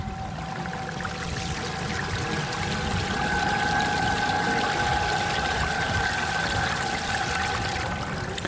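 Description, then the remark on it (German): Water pours and flows steadily in a dense, continuous rush at the wall of the Sauerdal, with water from the Place du Parc in Bonneweg, and a faint tonal hum beneath it; no voices, just the constant wash of moving water throughout. “Wir lassen Aquacanta an der Wand vom Sauerdal zusammen mit dem Wasser von der Place du Parc zu Bonneweg.”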